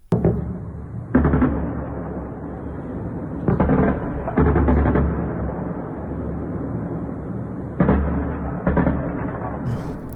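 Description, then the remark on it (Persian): Continuous anti-aircraft gunfire from an air defense drill in Bushehr province, Iran, held at 5 a.m. local time, booms in loud bursts over a constant low rumble, with clusters of sharp reports at irregular intervals, echoing, with no talking. “در شبکه‌های اجتماعی کاربران ویدیوهایی از شلیک ممتد ضد هوایی منتشر کردند.”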